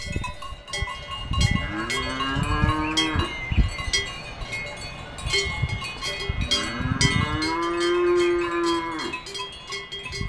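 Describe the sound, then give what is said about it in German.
Loud, deafening, clanging cowbells hung on grazing cows ring constantly and irregularly from several cows close by a terrace, with deep moos rising over them twice, one around the middle and a longer one near the end. “Ihr hört vielleicht ein bisschen Moon, ihr hört aber vor allem die ohrenbetäubenden Glocken, die man diesen Kühen umhängt.”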